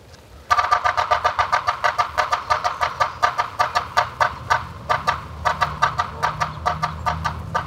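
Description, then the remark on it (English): A yellow-bellied sapsucker's irregular, stuttering drumming runs steadily, mixed with harsh, nasal call notes, loud over a low background rumble. “The Morse code of the yellow-bellied sapsucker is less regular than the drum of other woodpeckers, and its call note is harsh.”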